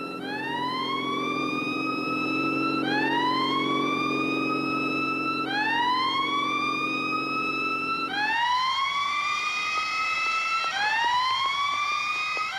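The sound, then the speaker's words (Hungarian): A person imitates a police siren, wailing in steady rising sweeps that repeat about every three seconds, loud, with a low engine rumble underneath for the first part and no talking. “Későn kezdted a szirénázást, majdnem át kellett vennünk a pénzt.”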